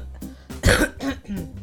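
A single loud cough bursts out, harsh and throaty, framed by a few softer breathy rasps before and after, with no talking.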